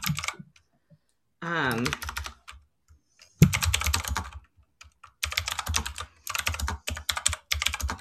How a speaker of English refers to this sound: Sorry, I got a mechanical keyboard now, so now you can hear everything. You type really fast. 80 words per minute.